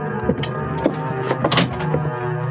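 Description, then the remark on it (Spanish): A sailor opening the door of a cabin aboard a ship: a handful of short clunks and latch rattles, the loudest about midway, over a steady low mechanical hum with no voices. “A una señal del marino, Calimán y sus compañeros se detienen en la entrada a un pasillo mientras aquel abre la puerta de acceso a un camarote y desaparece.”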